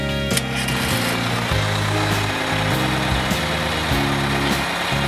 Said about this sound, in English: It's the school bus. It's the school bus.